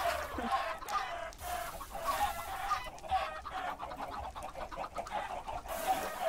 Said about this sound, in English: These poor chickens. The sound.